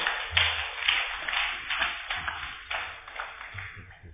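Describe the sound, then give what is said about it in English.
An audience claps together, a dense, steady patter of many hands overlapping into a continuous crackle, with no voices heard over it. “Clap like I'm not talking about you.”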